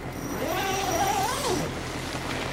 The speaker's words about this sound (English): I do believe that is Farmer Bob driving his tractor towards us, and he's got his red umbrella.